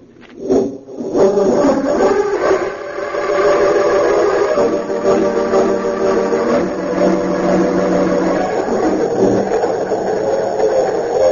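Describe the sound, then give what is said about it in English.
A speeding express train, the Golden Comet, roars through the night toward the city of Metropolis with a sustained, loud rumble while its whistle blows in long, steady wails over the clatter, with no voices. “It seemed as the crack expressed the golden comet speeding through the night toward the city of Metropolis.”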